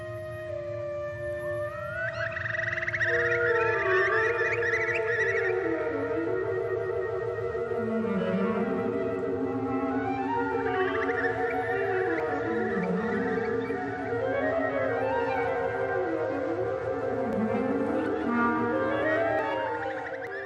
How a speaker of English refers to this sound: and then came back and wrote to his studio and wrote a concerto for birds and orchestra. Clearly the birds are music.